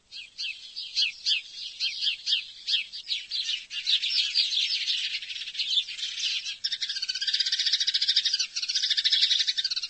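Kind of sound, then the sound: bird, sparrow chirping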